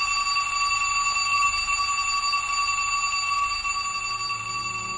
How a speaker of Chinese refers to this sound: 可就在这时，下课的铃声响了。